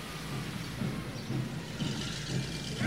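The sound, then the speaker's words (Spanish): A continuous low, heavy engine rumble of about 40 large trucks rolling past on their way to the town, steady throughout with slight surges and a brief louder bump at the very end; no voices. “Pero comprendí lo que ocurría cuando vi pasar como 40 camiones de esos grandotes que iban rumbo al pueblo.”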